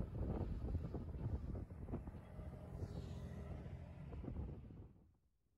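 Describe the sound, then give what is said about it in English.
Loud, blustery wind buffets the microphone in low rumbling gusts for about five seconds around Mayfield, then drops away quickly to near silence. A faint mechanical rumble sits underneath, and no one speaks. “It gets a little windy.”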